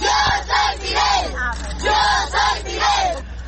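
A crowd of children lining the streets of Santiago de Cuba, Cuba, chanting loudly in unison, repeating the Spanish phrase "Yo soy Fidel" ("I am Fidel") several times in steady bursts with a slight street echo.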